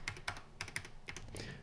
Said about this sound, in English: The Tandy keys, they're not quite mechanical, but they have springs in them. And they supposedly last forever. Well, this one certainly did.